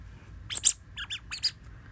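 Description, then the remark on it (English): A rubber duck squeaks six times in three quick pairs, high-pitched and chirpy, with short pauses between each pair over a low background hum, as someone grinds on it. No one speaks. “I'm grinding on a rubber duck.”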